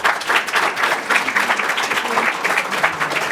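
Steady applause from an audience, a dense wash of many hands clapping at a fairly loud, even level throughout, with no voices standing out.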